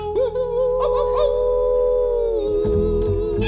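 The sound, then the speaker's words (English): A single long, drawn-out howl rises at the start and holds a steady wavering pitch, loud, like a person imitating a wolf, howling at the moon in a cowboy song, over a low steady rumble. “We're gonna hoop and holler and howl at the moon.”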